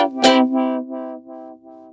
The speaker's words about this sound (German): So, ich hoffe, das hört man jetzt nicht so. Da bohrt jetzt jemand. Wenn das die Handwerker hier im Haus sind, dann hört man es leider nicht nur von draußen.